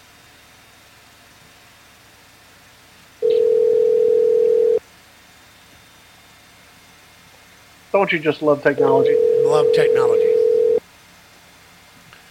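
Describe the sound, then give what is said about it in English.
A telephone line rings twice with long, steady electronic tones separated by a pause, as a call is placed to bring a guest onto a live broadcast; a man speaks over the start of the second ring. “And at least we get to have the ringing in the air so that we don't have nothing on air.”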